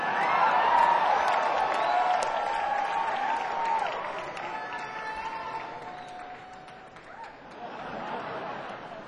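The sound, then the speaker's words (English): A crowd cheers and applauds a rock band steadily, with dense clapping, shouts and whoops that swell loudly at first, ease off midway, then rise again near the end. “This guy knows how to cheer for a rock band, okay?”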